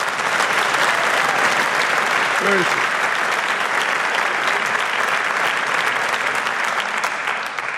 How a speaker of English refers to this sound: As a pianist, composer, and arranger, Carla Bley certainly deserves this prestigious award. Give me a warm applause and please welcome this beautiful, beautiful young lady, Carla Bley.